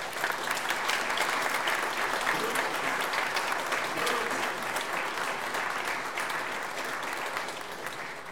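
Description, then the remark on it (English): Sustained applause from a sizable crowd for college graduates, a dense wash of clapping hands holding steady for several seconds before tapering slightly at the end. “Let's have a round of applause for our college graduates.”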